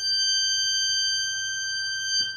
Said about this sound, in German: Da ist der kleinste Ton, der einzelne Pfeifen ist. Das ist ein 2 Fuß, der höchste Ton. Das G3. Das ist jetzt wirklich die Millimeter, ein paar Millimeter grosse Pfeife.